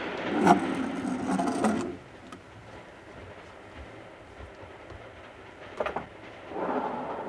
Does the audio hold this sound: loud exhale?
no